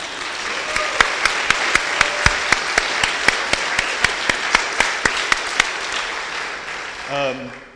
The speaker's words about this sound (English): Well, give a round of applause for my family being here, first of all.